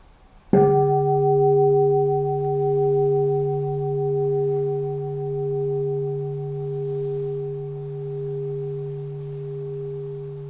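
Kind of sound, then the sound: signal or alarm, bell ringing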